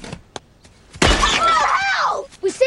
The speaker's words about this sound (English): One of the girls knocks the drone to the ground.